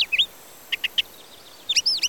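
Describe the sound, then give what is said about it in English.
A songbird sings clear, high whistled notes: a few swooping chirps, a quick run of three short tweets, then a livelier burst of rising and falling phrases, fairly bright against quiet. “I've learned to identify many birds by their song, like the wood thrush, the robin, the red-winged blackbird, and the sweet-singing brown thrasher.”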